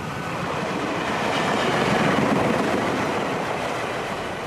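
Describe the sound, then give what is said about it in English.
A train rumbles steadily through a railway station in central Jakarta, by a station coffee stall, its broad clattering roar swelling to a peak midway and then easing slightly, with no voices heard. “Back in central Jakarta at a railway station coffee stall,”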